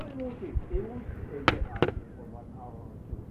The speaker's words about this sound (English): I'm going to move these books... I'm going to just put these right down here for you, and I'll put them back when I'm done. I'm just going to move the chair over.